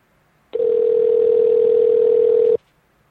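A steady, loud telephone dial tone after hanging up a call with a poor connection hums at one unchanging pitch for about two seconds, starting and stopping abruptly, with near silence before and after and no voices.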